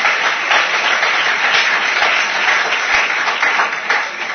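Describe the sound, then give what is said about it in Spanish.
Sustained audience applause at an event organized by the Asociación Internet Euskadi, a dense wash of many hands clapping steadily for several seconds at a loud, even level with no voices rising above it. “¡Un fuerte aplauso en Internet!”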